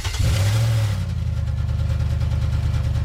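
A powerful V8 engine revs up loudly with a deep, throaty roar, then settles into a rumbling, burbling idle, with no voices.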